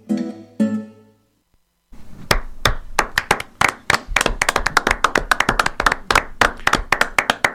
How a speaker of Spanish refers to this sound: No escucho los otros aplausos. Voy a hacer como los jugadores de fútbol. Me voy a poner la mano acá en la oreja. Los aplausos de los que están lejos, no sé, yo no los escucho.